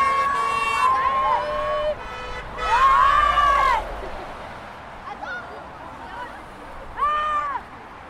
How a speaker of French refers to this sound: C'était très amusant car tout le monde était excité et nous jouions avec les camions et en retour, quand on les remerciait en retour, eux ils klaxonnaient et pendant 10 minutes c'était magnifique.